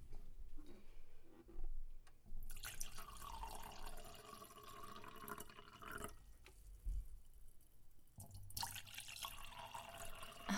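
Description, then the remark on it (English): Wine pours into a glass in two steady streams with a bright, splashing rush, separated by brief pauses and soft clinks; no one speaks. “You know how to pour.”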